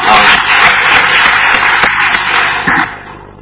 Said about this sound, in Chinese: 俾掌声下哇。